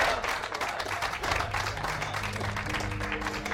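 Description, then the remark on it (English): A small group claps together in a steady, dense patter that holds at an even level throughout, with faint low tones humming underneath. “That's a clap.”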